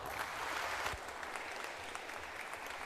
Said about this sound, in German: Und ich bitte euch, sie mit einem ganz herzlichen Applaus zu begrüßen.